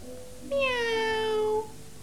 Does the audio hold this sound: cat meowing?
yes